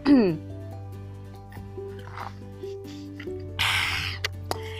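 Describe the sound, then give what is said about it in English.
Someone takes sips of water, with soft wet gulps and swallows over a steady low hum, ending in a short breathy burst. “Yeah, I wanna drink water, so I will also advise you when you drink water.”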